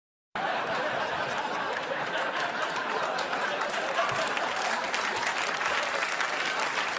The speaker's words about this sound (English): Yeah, people just loved that that line right there, right? There, they burst into applause.